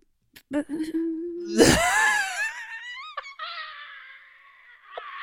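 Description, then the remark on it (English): A woman's voice imitates a phone going dead: a flat, low hum, then a loud strained burst that bends downward, ending in a thin, steady high-pitched whine that fades out. “Oh, so when she hasn't queued up a noise of a phone going dead, she tries to do the noise of the phone going dead.”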